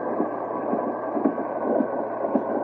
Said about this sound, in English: Hey, what's happening? Feels like we're stopping. Now, why would Jeff be breaking the train halfway between here and nowhere? Well, maybe there's a cow on the track.